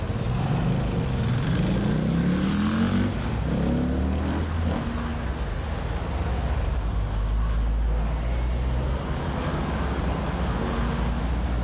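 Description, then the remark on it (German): Steady street traffic with cars crossing both in front and behind, engines rising and falling as they pass, a continuous loud rumble of roadway noise throughout. “Die Autos fahren hinter uns und vor uns quer.”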